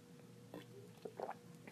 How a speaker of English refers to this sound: Did you hear my gulp? I wonder if you could hear my gulp when I drink.